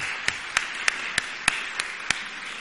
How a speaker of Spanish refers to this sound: Bueno, le aplaudimos por estas.